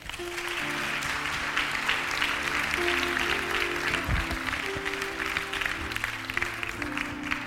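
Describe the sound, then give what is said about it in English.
An audience claps hands steadily, with dense, continuous applause alongside sustained organ or keyboard chords underneath, ringing on for several seconds at a strong, even level. “Can you give out a hand clap?”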